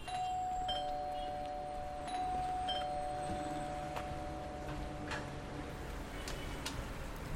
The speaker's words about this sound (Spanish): El timbre suena, la puerta se abre.